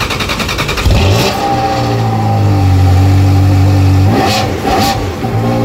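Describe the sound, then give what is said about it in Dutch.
A baby-blue Ferrari 360 engine revs up loudly, climbing to a sustained high-pitched roar, then dropping and snarling through two more sharp throttle blips. “Dat was een Ferrari 360.”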